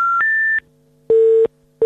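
Phone dialing tones as a number is dialed on a mobile phone: two quick higher-pitched electronic beeps in a row, then a lower, steady tone that pulses on and off at an even pace. No one speaks.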